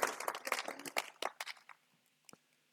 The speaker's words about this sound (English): Thank you. Round of applause for my willing assistant.